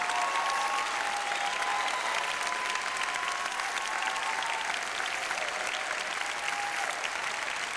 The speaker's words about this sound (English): I want anyone that's here that is either in a, you know, one of the week staff, a 5 week staff, or a year round staff to stand up right now, and I want you to give them an applause. Come on now. Come on, let's hear it.